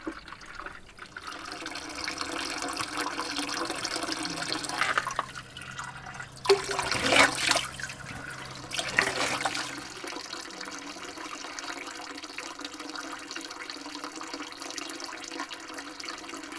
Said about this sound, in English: Leaving the goats behind, we come to the spring water. We fill up our water bottles, take a big gulp, because we're going to need a lot of water for today's journey.